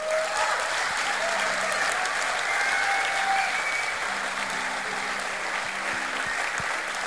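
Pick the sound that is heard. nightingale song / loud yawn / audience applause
audience applause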